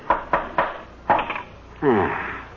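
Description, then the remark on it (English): Four sharp, woody hammer blows strike at an uneven pace as nails are driven to tack a finished painted canvas onto a wooden frame to keep it stretched, followed by a brief voiced sound. “But what were you doing with the hammer and nails?”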